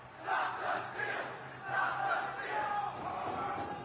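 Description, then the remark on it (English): A large crowd of rioters inside the Capitol, pouring into the rotunda, crypt, statuary hall and other locations, shouts and yells continuously in a dense, roaring wall of voices, swelling in waves without pause, with no single speaker standing out. “Crowds began pouring into the rotunda, crypt, statuary hall, and other locations.”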